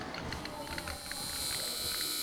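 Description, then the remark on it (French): A shopping cart standing on clothes, its wheels shifting slightly, giving faint, irregular little squeaks and ticks over a steady low hiss of background noise, quiet. “On entend ses roues bouger un petit peu.”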